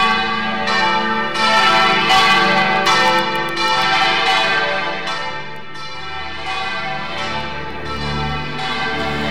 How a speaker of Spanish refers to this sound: Eran las campanas que tradicionalmente anuncian el nombramiento de un nuevo pastor para una diócesis. Un motivo de júbilo que se hace presente a través de las campanas de la catedral, el templo madre de la diócesis.